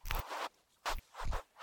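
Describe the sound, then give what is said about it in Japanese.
Gritty scraping as something rubs along a groove, scrubbing off flaking, dried grime, in three rough strokes of uneven length, the first long and the last two shorter, with brief pauses between them and no voices. “溝のとこ、こすったらボロボロ剥がれてくるんだけど。”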